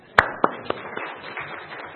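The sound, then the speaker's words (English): Applause for the tech crew: four sharp, evenly spaced claps ring out, then settle into a softer, scattered patter of hand-clapping that continues quietly to the end, with no voices. “Applause for our tech crew.”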